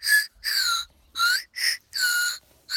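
A Chupa Chups toy lollipop whistle is blown in about six shrill bursts, some short and some longer, each a high reedy tone that bends slightly in pitch, with brief silences between and no talking.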